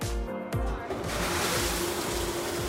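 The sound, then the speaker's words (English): A commercial dishwasher sprays water, washing dishes after a food service, in a steady, loud, hissing rush. A low mechanical hum runs underneath, and the noise fills the whole clip without a break. “It looks kind of like a car wash. Oh, it sounds like one, too.”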